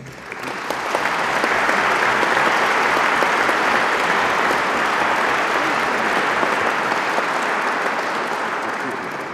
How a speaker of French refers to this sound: Je demande aux lauréats de bien vouloir se lever et je vous demande de les applaudir.